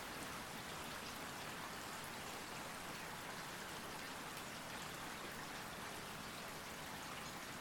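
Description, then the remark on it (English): Steady rain falls continuously, a dense, even hiss of countless drops pattering on a surface, unbroken, with no voices or other sounds. “Just let go of everything and focus on the rain.”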